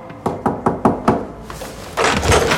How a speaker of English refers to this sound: Ronnie and Sam knock on Olivier Dondo's flat door.